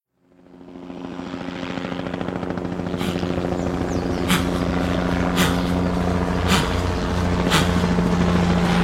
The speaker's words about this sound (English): Is that her? In the chopper?